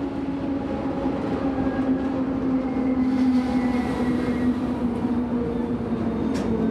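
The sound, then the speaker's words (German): A train rumbles steadily, its low droning hum and rolling wheel noise filling the air as it pulls into the station at the Pressehaus, with a faint brief squeal near the end. “Bahnhof am Pressehaus.”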